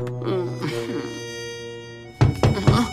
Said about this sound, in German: Nanu, wer klopft denn da?